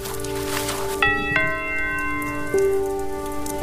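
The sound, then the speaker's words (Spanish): Steady rain patters down at night outside a country house in Tuscany, while a doorbell rings in a few clear, ringing bell-like tones that sustain over it. No voices are heard. “fuera, bajo la lluvia, hay un niño de 6 años.”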